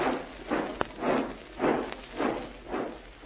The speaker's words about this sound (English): You hear those marching feet growing louder and louder, stronger and stronger, never stopping, never slowing down.